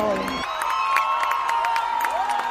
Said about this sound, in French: Peu avant midi, Edmundo González Urrutia et Javier Milei apparaissent au balcon de la Casa Rosada. Les parents hissent leurs enfants sur leurs épaules, la foule exulte et entonne l'hymne national vénézuélien.